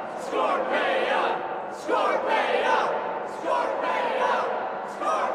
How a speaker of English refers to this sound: From the crowd a chant arose, a babble of confusing voices, but one word finally became identifiable.